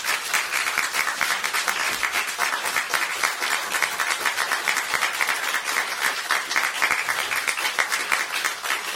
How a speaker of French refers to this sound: Et sur scène, moins je vais, et je présente les musiciens. D'abord, je vous demande d'applaudir